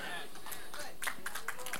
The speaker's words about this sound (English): No, we don't do golf claps in the bridge.